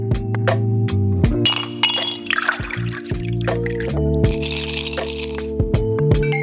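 glasses clinking

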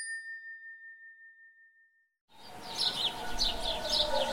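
birds chirping

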